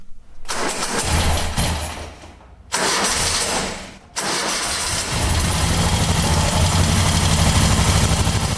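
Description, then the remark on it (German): An old racing car engine at the revived Klausenrennen race on the Klausen cranks and catches in a few rough bursts, dropping out briefly between attempts, then roars into a steady, loud, throbbing idle with a low rumbling pulse. “Das ist Musik in den Ohren von einem Oldtimer-Fan.”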